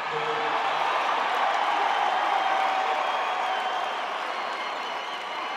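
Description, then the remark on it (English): A large concert crowd applauds and cheers in a dense, continuous roar of clapping and voices, holding steady and loud for several seconds before easing slightly at the end. “You can only dream of a crowd like that.”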